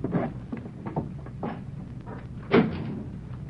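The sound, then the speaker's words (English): Quiet wooden creaks and knocks, a few soft ones scattered through, then a single louder creak partway in, like a floorboard giving under weight. No one speaks. “Could have sworn I heard a board creak.”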